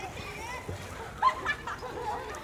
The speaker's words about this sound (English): Okay, Mum, but wait a minute, I'm having a shower.